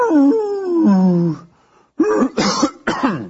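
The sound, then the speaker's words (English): A person's voice attempts a wolf-like howl, a drawn-out, wavering tone that slides downward and breaks off. After a short pause come three rough, raspy bursts like coughing or throat clearing. “But don't hurt your throat when you're howling.”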